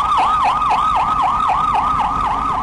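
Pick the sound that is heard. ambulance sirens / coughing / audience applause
ambulance sirens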